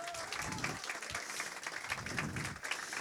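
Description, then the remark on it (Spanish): At an author's book reading, a crowd applauds steadily for about three seconds for a woman being introduced, a dense wash of many hands clapping at an even, fairly loud level, with a faint voice underneath. “un aplauso por favor para ella.”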